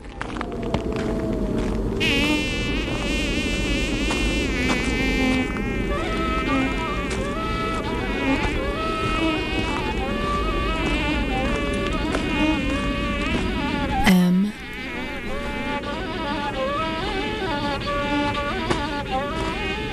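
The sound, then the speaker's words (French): A dense, continuous mosquito buzzing, several high whining drones wavering and shifting in pitch, fairly loud, with a brief dip partway through before the swarm-like hum carries on. “Ce mot moustique, Hawad.”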